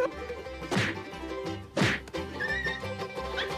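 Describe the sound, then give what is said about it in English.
Two heavy punching thwacks from a cat punching down repeatedly land about a second apart, each a sharp smack with a brief rumbling tail, over a busy background of steady tones and clatter. “The cat punches down repeatedly.”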